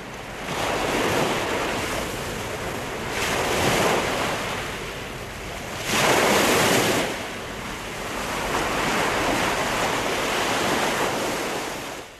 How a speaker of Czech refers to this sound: Svi smo se dobro držali za parobrod da nas talasi i vetar ne bace u more.